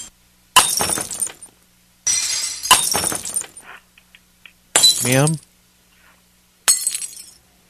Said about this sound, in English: I'm throwing candles on the floor. Can you tell them, like, go to the sound of the breaking glass?